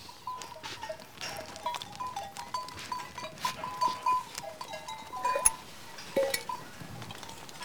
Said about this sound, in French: Florence est en train de procéder aux soins des brebis qu'elle a regroupées donc dans le cortal.